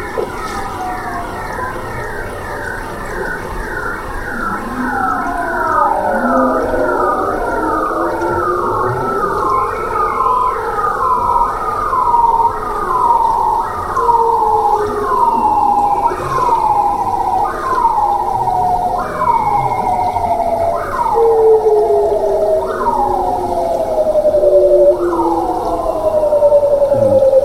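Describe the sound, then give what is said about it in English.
Underwater song of a bowhead whale: a long series of rhythmic, swooping tonal calls repeating about once a second, with a slower low moan gliding beneath them, over a faint wash of water lapping against surface ice. “Water lapping against the surface ice, and then beneath that you hear, it's a bowhead whale singing.”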